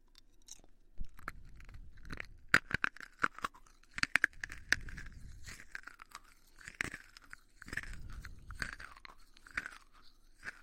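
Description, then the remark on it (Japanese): Crisp crunching of a hard, sweet snack being chewed, with sharp bites followed by repeated crackly chews in bursts and short pauses between, no talking. “カリカリカリいい音しますね。甘くてとっても美味しいです。”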